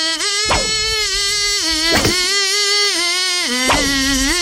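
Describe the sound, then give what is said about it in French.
A voice imitates a mosquito with a loud, continuous, nasal buzz held at a steady pitch, broken by three brief sharp catches and dipping slightly lower near the end. “C'est un moustique qui fait la gueule tout le temps, lui.”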